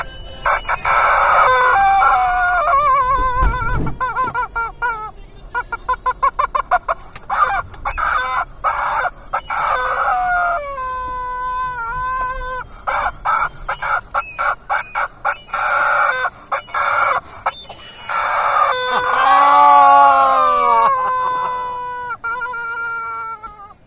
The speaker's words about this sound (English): Well, get ready for the screaming rubber chicken.